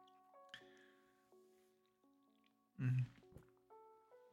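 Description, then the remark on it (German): A person takes a quick sip of water during a short pause in talking, one short loud gulp near the middle, over a quiet steady tonal hum with no talking. “Ich muss immer zwischendrin wieder kurz ein bisschen ein Wasser trinken.”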